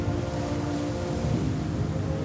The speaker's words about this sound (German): Das Brausen der wilden Wellen ist mittlerweile allgegenwärtig.